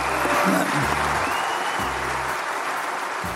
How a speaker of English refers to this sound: Yeah, what was the reaction? I mean, people are tearing up and everybody starts to stand and clap.